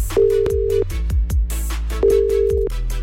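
Two steady bursts of a telephone ringback tone, each under a second long and separated by a pause, as the Petőfi Rádió Kívánság request show places a call, over a backdrop of thumping music beats. No one speaks.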